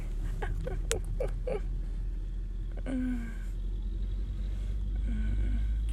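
A heavy sugar cane truck drives past with a deep, steady engine drone, a few sharp clanks early on and a brief rising squeal midway, with no one speaking.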